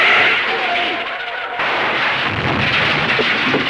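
A loud car crash into a fence: harsh crunching and splintering noise that shifts abruptly partway through, then keeps rumbling and rattling heavily to the end.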